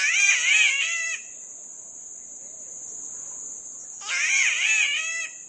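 A spotted catbird, a bird nearly a foot long and emerald green with white spots, gives two harsh, wavering, cat-like wailing calls separated by a few seconds of quiet, over a steady high buzz of insects.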